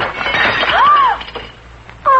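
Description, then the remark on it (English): A loud crash of a cake being dropped and shattering, with a burst of bright breaking debris and a ringing, glassy tone sweeping up and down, then a quieter pause before another sharp clatter. “Oops, I think I'm going to drop it.”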